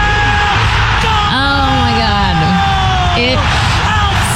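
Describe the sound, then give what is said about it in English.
A stadium crowd in Toronto cheers after Alphonso Davies scores to make it 2-1: a loud, continuous roar with several rising and falling yells and whoops carried over it, holding steady for the whole stretch. “Listen to the crowd, by the way.”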